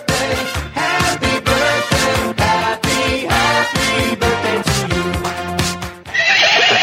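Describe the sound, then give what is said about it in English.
A loud horse whinny rings out over a steady, rhythmic musical backing, with a brighter, breathy burst at the very end and no one talking. “Yeah, so let's do the Daily Winnie. I want to hear the new and improved one.”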